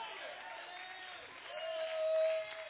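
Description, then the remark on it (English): A church audience claps and shouts together in praise to God in a dense, steady roar of hands and voices, with one sustained cry rising above the crowd near the end. “Clap and shout.”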